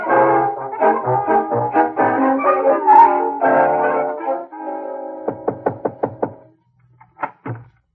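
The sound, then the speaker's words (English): After a stretch of brassy music, five quick, evenly spaced knocks on a door ring out, then a short pause and two more knocks, clear with no talking. “Why, Cousin Willie, you knocked on the door.”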